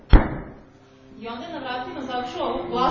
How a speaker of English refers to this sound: One morning, he sat and performed his worship. And he heard on the door a loud knocking.